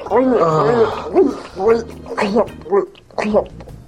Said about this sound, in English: Yes, that would be the sound of oral sex, which would make a great relaxation CD.